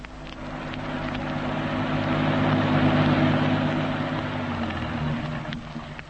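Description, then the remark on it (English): A car engine idles at the edge of a deep disused quarry with a steady, low rumble and a faint whine, holding fairly loud for several seconds with no voices. “I'll start the engine again in a moment.”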